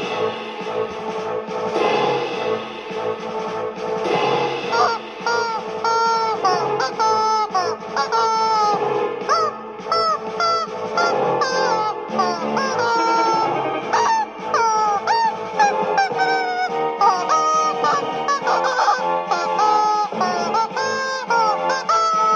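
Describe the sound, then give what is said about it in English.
A squeaky dog toy honks over and over in a rapid, uneven string of shrill, nasal squeals, loud and continuous with barely any pauses. “This is my squeaky toy with my dog.”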